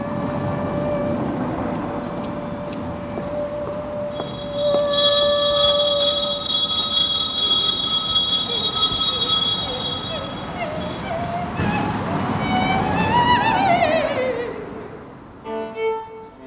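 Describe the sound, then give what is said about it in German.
A streetcar on the outskirts of Cologne rumbles steadily past, its bell ringing out for several seconds before the wheels let out a rising, whining squeal on the rails as it moves away. “Am Kölner Stadtrand hat er eine Straßenbahn aufgenommen.”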